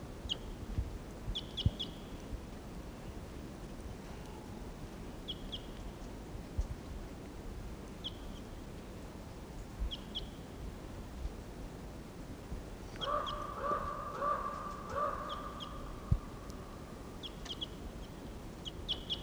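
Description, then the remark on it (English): A wild bird in the trees, shot at and missed about 20 minutes earlier, calls in short, high chirps repeated at irregular intervals, then gives a longer, lower, rasping call near the end, all over a steady low rumble with no talking. “Now it's about 20 minutes later and he's still here in the trees somewhere. Stop. There's that wild bird.”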